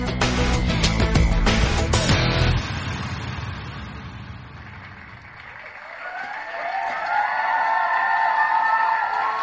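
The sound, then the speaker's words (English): A crowd claps and cheers in a dense, loud burst that drops off after a couple of seconds, then a softer crowd noise swells again with high whooping calls. “They're clapping for us, of course.”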